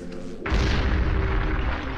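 A sudden, loud gunshot blast cracks in after a brief low hum, followed by a heavy, booming rumble that rolls on without fading. No one speaks.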